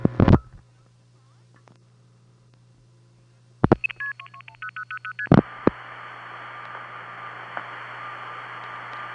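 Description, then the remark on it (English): Telephone line clicks, then a quick run of stepped multifrequency beeps as a long-distance call routes through a number 5 crossbar switching system on a home phone line, followed by a click and a steady tone over hissy line noise; no one speaks. “But from my parents' line, long-distance calls went through like this.”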